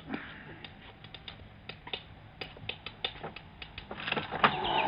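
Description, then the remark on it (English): A window rattles as a bird tries to get in: irregular sharp taps and clicks, sparse at first, then a denser, louder burst of rattling toward the end, with no voices. “the window seats you. It's rattling. I've already seen to it. It's some bird trying to get in.”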